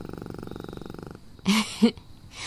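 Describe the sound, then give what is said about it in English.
A panther purrs in a steady, rhythmic rumble for about a second, then falls quiet before two short, louder throaty vocal bursts. “We might not have been so lucky had my lovely panther companion not been here to maim and otherwise rip them to shreds.”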